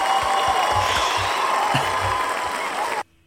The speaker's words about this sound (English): How about a little applause? Where are we at? Yay. Oh, yeah, here we go. Yay.